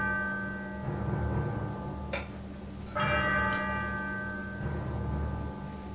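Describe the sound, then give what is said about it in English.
A clock strikes with resonant bell chimes, two sharp strokes ringing out and lingering with rich overtones over a steady low hum, moderately loud. “As the clock strikes 13, it's Tuesday, the 25th of November, year of our Lord, 2025.”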